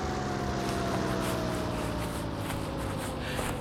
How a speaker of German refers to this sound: Und jetzt, jetzt landet der Hubschrauber.